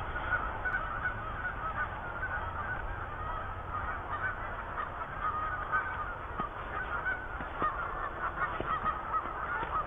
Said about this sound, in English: With the geese cackling here.